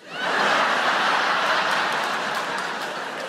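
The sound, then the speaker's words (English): Part of an audience breaks into applause, a dense, steady patter of clapping that swells quickly and holds at a fairly loud level for a few seconds, easing off only slightly toward the end. “Some of you applauding that.”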